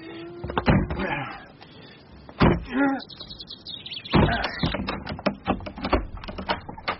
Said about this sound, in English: Knock first and make sure. No one answers. Let's try the door. Locked. Stand back. I'll force it. Right.